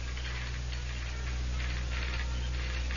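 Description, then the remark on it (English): A telegraph sounder clatters out Morse code in uneven bursts of dry clicks, steady and mechanical, over a constant low hum. “Then, through the open window, she heard the dots and dashes of the Morse code.”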